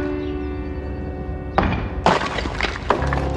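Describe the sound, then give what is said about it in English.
Several heavy thuds and crunching smashes break out after a steady low hum, as plaster ornaments are shattered, with crumbling debris rattling between the three or four loud blows. “Red brick tiles. Smash. Plaster roses.”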